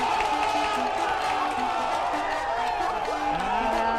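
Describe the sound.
A crowd applauds and cheers loudly and steadily for about four seconds, with shouting voices and whoops rising over a constant wash of clapping, after a team correctly answers a quiz question on what began the Second World War; a member of the opposing team also applauds.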